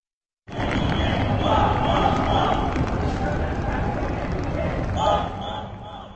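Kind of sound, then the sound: crowd, parade crowd cheering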